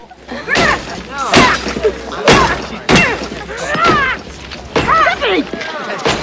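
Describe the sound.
A woman smashes up a car outside with a baseball bat again and again as a crowd watches, loud metallic crunches and shattering glass coming roughly every second, while raised voices shout and talk between the blows.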